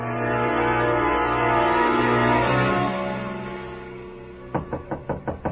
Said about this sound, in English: The knock surprised me. I'd forgotten about the bellhop. I got up to go to the door,